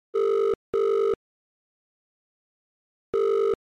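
A telephone ringing tone heard down the line while calling a person who lives in Hawke's Bay: two steady buzzing pulses in quick succession, a pause, then another, clear and loud with no talking.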